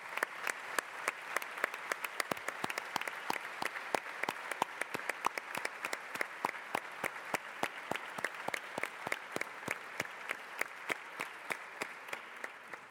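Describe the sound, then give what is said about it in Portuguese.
A sustained round of applause from a crowd for former deputy Juliette Sampaio, dense overlapping claps with sharp individual hand strikes standing out, steady in loudness for the whole stretch with no voices. “e não posso deixar aqui de mencionar a nossa ex-deputada, sempre deputada, Juliette Sampaio, que foi uma alma mater, podemos dizer, deste projeto e que tanto sucesso tem tido ao longo destes anos e para o qual eu peço uma salva de palmas para...”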